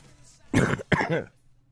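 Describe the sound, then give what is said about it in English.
A fairly loud cough followed right away by a rough throat clear as a radio host opens the microphone, two quick bursts in under a second with quiet room noise around them and no speech. “I had purposely tried to clear my throat before I opened up the microphone, but of course, as usual, it doesn't always work out that way.”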